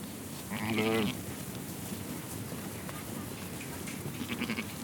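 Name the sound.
sheep bleating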